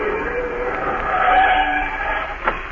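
Car tires skid in a long, loud, screeching squeal as a car driving alongside another slows and pulls over, ending with a short thump; no one speaks.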